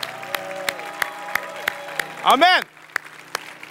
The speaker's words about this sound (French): Est-ce qu'on peut à l'avance applaudir le Seigneur pour ce qu'il va faire ce matin dans ta vie? Allez, plus fort que ça, Nouvelle Vie!